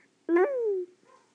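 A single drawn-out dog bark, fairly loud, its pitch sliding downward as it fades, with a brief faint rustle afterward and no talking.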